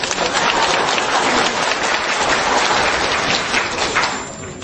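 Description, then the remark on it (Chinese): A crowd applauds steadily for several seconds, a dense, continuous wash of many hands clapping, tapering off slightly at the end. “鼓掌。”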